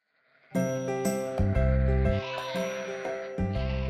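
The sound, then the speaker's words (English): Sheep bleating loudly, several overlapping calls running together into a nearly continuous, wavering chorus after a brief quiet start. “He helped his father watch the sheep every day.”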